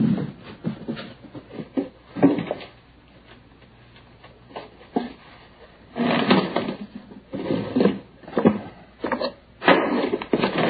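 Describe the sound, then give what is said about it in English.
A wooden chair is dragged and set in place, with a series of irregular knocks, scrapes and clatters, coming in clustered bursts with short quiet gaps between. “would you set up a chair?”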